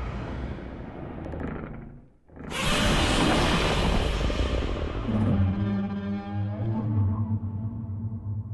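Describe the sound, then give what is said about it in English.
Godzilla's new roar crafted for director Gareth Edwards' Godzilla film, as a movie sound effect: a low rumbling lead-in, a brief drop, then a huge harsh blast that settles into a sustained, tonal bellowing wail. Loud, with no voices. “All right, so you get the assignment to craft the new roar.”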